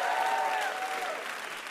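A steady burst of audience applause, many hands clapping together in a dense, continuous patter that fades slightly toward the end, with a faint whistle-like tone above it.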